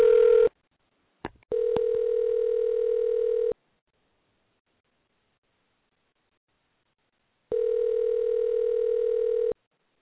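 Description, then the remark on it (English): A phone call ringing on the line: steady mid-pitched ringback tone bursts, about two seconds each with a long silent gap between, plus a couple of brief clicks early on. No voices. “I think you can all hear it ringing.”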